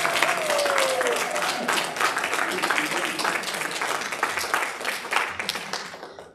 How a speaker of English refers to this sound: Give these guys a huge round of applause.